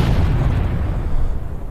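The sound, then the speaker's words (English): A loud explosion sound effect, heavy, with a deep rolling rumble that sustains steadily through the whole moment rather than fading quickly. No voices. “Whenever I mention bomb cyclone, I want to hear the explosion.”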